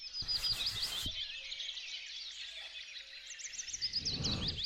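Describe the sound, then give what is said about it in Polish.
Several birds sing and chirp continuously outdoors, a busy chorus of high twittering calls, with a brief rustle of noise at the start and a low rumbling gust near the end. “Tu ciągle coś śpiewa, ciągle coś wyskakuje.”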